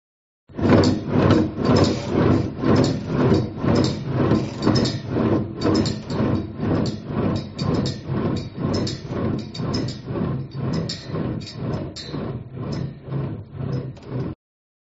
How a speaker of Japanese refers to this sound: 水平バネ振り子の実験です。実験室で私がやりますから音を聞いてください。まず、写真のように1台の台車にバネを取り付けて、実験室の机の上で振動させます。